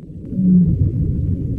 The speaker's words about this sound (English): And sometimes, Ziak scores two remarkable sounds back to back. A little bit of a vocalization from a baleen whale.